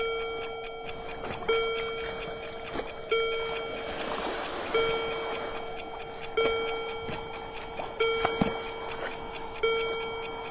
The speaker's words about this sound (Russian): Наконец, часы пробили 7.